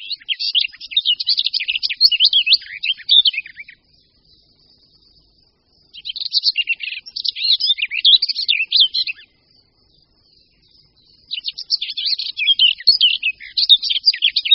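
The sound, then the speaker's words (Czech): A songbird sings three bright, rapid warbling phrases, each lasting a few seconds and separated by short pauses, clear with no voices present. “Čili řečeno obrazně, tělo ptáka funguje jako výkonný reproduktor.”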